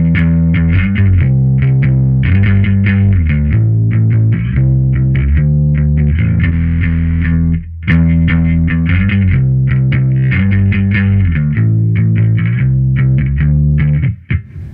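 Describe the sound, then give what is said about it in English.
A loud, gritty instrument played through an overdrive distortion pedal plays a steady series of sustained notes with a thick, fuzzy distortion tone, pausing briefly midway before continuing; no voices are heard. “This is like a overdrive distortion thing.”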